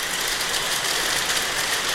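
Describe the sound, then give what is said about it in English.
Oilbird echolocation clicks in a cave, a dense, steady rattle of rapid, bright clicks that blur into a hiss-like wash, continuous and fairly loud throughout, with no voices. “The reflected sound from these clicks enables oil birds to gauge the nature of their surroundings and figure out where they are.”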